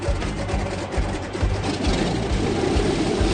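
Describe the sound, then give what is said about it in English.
Loud, steady drone of an airplane's engines on a rough sea with 6-7 foot waves, fired to keep the plane stable and upright, with a deep, regular throbbing pulse underneath and a broad rushing wash of noise over the top, continuous, with no talking. “The sea is getting so bad, Justin has to fire the engines just to keep the plane stable and upright.”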